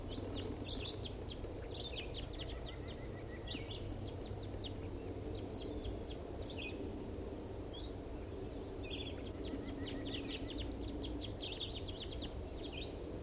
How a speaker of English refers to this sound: stop. Start recording that wild bird.